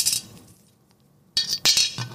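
Coins clinking into a piggy bank: a bright metallic jingle, a brief pause, then two more sharp clattering bursts of coins settling, with no voices.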